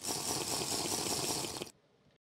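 A short, steady pour of a dash of water into a glass of whiskey, fairly loud, a dense splashy trickle lasting under two seconds before cutting off abruptly into faint residual noise.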